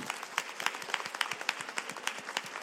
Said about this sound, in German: Und jetzt nochmal wenn die Anwesenden doch so nett sind, nochmal einen kleinen Applaus